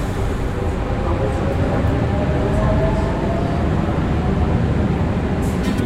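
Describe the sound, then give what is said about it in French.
A metro train rumbles into the new RATP station Auber (Opéra, Havre-Caumartin) in Paris, a steady, loud low-frequency roar with faint squealing tones riding on top, continuous throughout with no voices. “trouvons au moment où un métro entre en gare d'Aubert, Opéra, Havre, Caumartin.”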